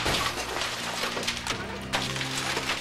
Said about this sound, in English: Jim rushes to a side window. Get back! He smashes it with his container.